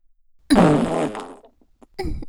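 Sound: farting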